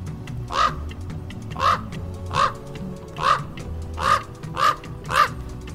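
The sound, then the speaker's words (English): A raven croaks about seven times in a steady, evenly spaced series, each call a harsh, hoarse burst, with no talking and only a faint low rumble underneath. “If you guessed raven, give yourself a pat on the back.”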